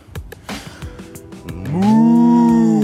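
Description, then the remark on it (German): After a moment of soft rustling and clicks, a person turns to face a slope and exhales in a long, loud imitation of a cow's moo that swells and holds steady to the end. “Und dann ausatmen. Und zwar in Sprache einer Kuh.”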